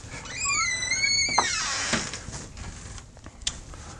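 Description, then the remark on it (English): A door is closed during a lecture: it swings shut with a drawn-out, high squeaky creak that rises and wavers, followed by a dull thump and a latch click, then a faint later tap. “Let me close the door so we're not bothering them.”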